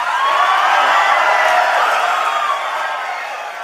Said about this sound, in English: Following Marco Rubio's announcement at the Value Voters Summit, the crowd got a little raucous.